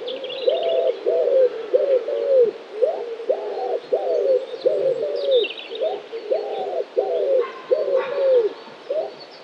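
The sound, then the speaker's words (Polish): A common wood pigeon coos steadily in repeated soft, hollow phrases, prominent, while fainter songbirds chirp high in the background. No one speaks. “Mamy gdzieś tam w oddali kapturki i co chwilę odzywa się kuzyn siniaka, największy gołąb, czyli grzywacz.”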